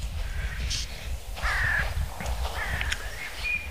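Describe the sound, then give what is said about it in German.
Several crows caw over a steady low outdoor rumble in the frosty, cool early morning before sunrise, near an anthill, their harsh calls spaced irregularly, joined by a few higher, thinner bird notes in the open air. “Alle Vögel sind natürlich schon wach, logisch.”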